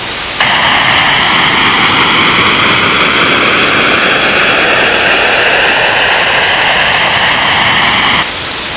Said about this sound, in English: Now we will play a few examples of our jamming signals. White noise.